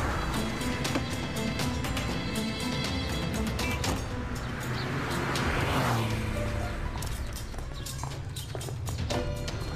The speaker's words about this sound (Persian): اون خیلی جلبه، حالا ماشین اینجا پارک میکنه پیاده میشه.